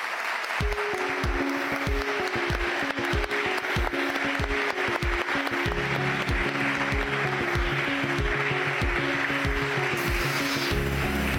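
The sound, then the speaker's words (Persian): A crowd claps and cheers steadily for about eleven seconds as the first contestants come onto the stage of the TV show Meydoon. The loud, dense applause is layered over upbeat music with a thumping beat. Nobody speaks. “به روی صحنه میان با تشویق دوستان”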